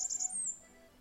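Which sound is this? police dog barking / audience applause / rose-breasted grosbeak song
rose-breasted grosbeak song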